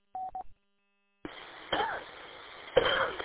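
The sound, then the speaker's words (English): A brief burst of telephone-style dial tones, a moment of silence, then a few harsh coughs come through a noisy, band-limited radio channel on the WHCMN repeater in Guilford, CMN Network, fairly loud with no talking. “Looks like we're both having a coughing”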